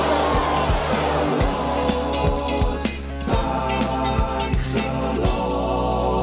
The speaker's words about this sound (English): The crowd was in uproar.